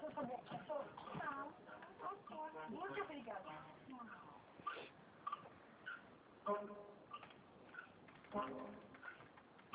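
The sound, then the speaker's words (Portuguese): A small dog whimpers in a string of high, wavering whines, rising and falling in pitch, some drawn out and others short and squeaky, with brief pauses between them. “Ah, você é meu cachorrinho?”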